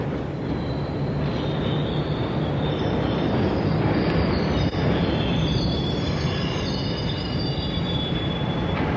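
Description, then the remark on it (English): A train rumbles steadily into a station, a loud continuous low roar with high metallic wheel squeals whining above it, filling the whole stretch with no voices. “Our train's coming.”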